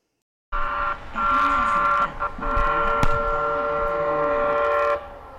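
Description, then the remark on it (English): A CATS light rail train on the 19-mile light rail extension line rolls past with a steady rumble and a sustained electric whine, a sharp clack cutting through near the middle before the sound drops off abruptly. No one speaks. “When CATS was building the $1.1 billion light rail extension, the transit system projected the entire 19-mile line would carry about 33,500 passengers each weekday in the first year.”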